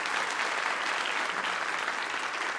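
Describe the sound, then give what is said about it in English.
Steady audience applause fills the whole stretch, a dense wash of many hands clapping at a constant, fairly loud level with no voices standing out. “Applause.”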